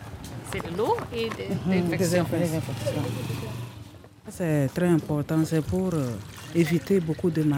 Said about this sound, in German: misst das Desinfektionsmittel genau ab und schüttet es in einen Eimer mit Wasser. Rosicon Desinfekt.